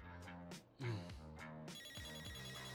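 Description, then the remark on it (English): An office telephone rings as the boss calls from the office, a bright, melodic electronic ringtone cycling through a repeating pattern of tones, steady for the whole stretch with no voices. “Why the fuck is the boss calling my phone from my office?”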